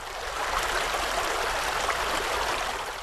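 A river stream flows steadily by the riverbank in Dobrinja, a constant rushing, bubbling wash of water with no pauses and no voices, fairly loud and even throughout.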